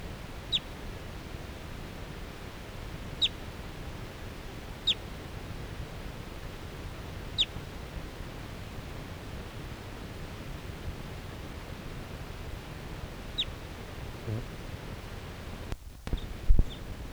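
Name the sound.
wild bird calling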